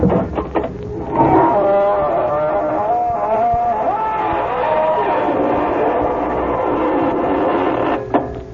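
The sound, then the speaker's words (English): A door creaks slowly open in one long, loud, groaning squeak that wavers up and down in pitch for about seven seconds, after a few brief clicks: the squeaking door that opens Inner Sanctum Mysteries. “This is your host to welcome you through the squeaking door.”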